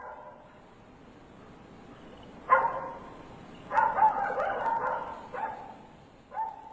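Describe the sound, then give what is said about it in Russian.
A dog named Sira barks loudly at night inside a building: a single sharp bark, then a rapid, sustained run of barking, followed by two more isolated barks over a quiet background. “Громкий лай Сиры прервал ее сон.”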